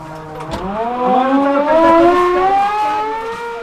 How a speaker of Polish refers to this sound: Dawaj to syreno!